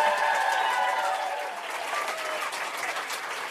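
A room full of people claps steadily, a dense, even patter of many hands that holds at a moderate level for a few seconds with no voices on top.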